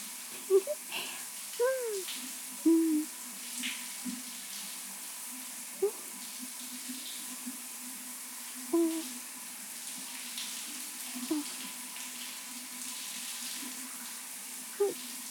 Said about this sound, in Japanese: まあ、お酒のシュワシュワが待っているから、早いところ洗い流しちゃいましょうか。